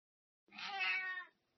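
A single drawn-out cat meow, fairly loud, lasting just under a second with a rising then falling tone, heard on its own against silence.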